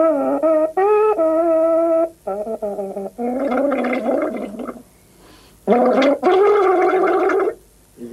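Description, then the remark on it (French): A water-filled kettle played as an instrument gives off bursts of warbling, gurgling tones, some held as steady pitched notes and others bubbling and wavering, in phrases separated by short pauses. “C'est l'eau, il y a de l'eau dedans.”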